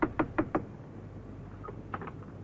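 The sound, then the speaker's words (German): Four quick, evenly spaced knocks on a house door, fairly sharp, followed by a softer pair of taps a moment later against a quiet outdoor background. “Ja, das Haus muss es sein hier. Das Mädchen Elfriede und der Name? Goy ist richtig. Mal klopfen.”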